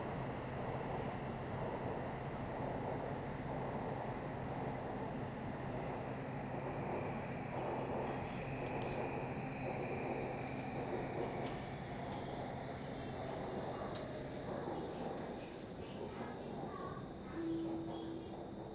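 A metro train rolls steadily along toward Silom Station, its loud continuous rumble and wheel noise filling the carriage, with a low motor hum droning underneath and a brief higher whine near the end.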